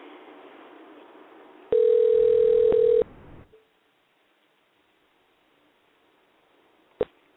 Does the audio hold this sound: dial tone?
yes